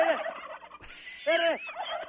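Several turkeys on a small hobby farm gobble in rapid, rattling bursts, heard through a phone held near them, one burst near the start and another about a second later, loud, with more birds chattering continuously behind.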